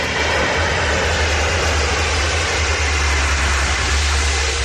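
Seaplanes skim the sea in the Canary Islands to scoop up water to put out a wildfire while bathers on the beach watch, their engines a loud, steady roar with a deep low drone and a broad rushing hiss that never lets up.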